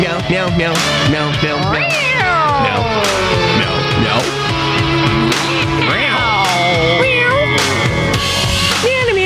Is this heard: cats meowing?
yes